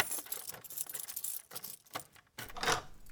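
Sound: keys jangling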